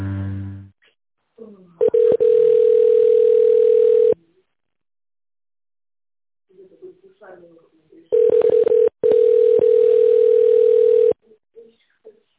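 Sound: telephone ringback tone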